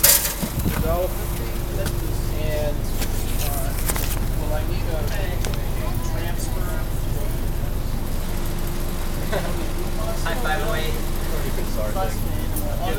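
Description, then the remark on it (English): A steady, loud low engine rumble fills the whole recording from a number two city bus going to City Hall in Worcester, with a faint tonal whine and scattered rattles and clatter over it. “We're getting on the number two bus to City Hall.”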